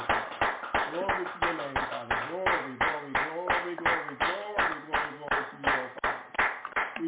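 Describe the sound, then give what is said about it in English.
An audience claps hands in praise of God in a steady, rhythmic beat, roughly three claps per second, loud, with voices calling out and chanting over the clapping throughout. “Let us give the Most High a hand clap of praise for today.”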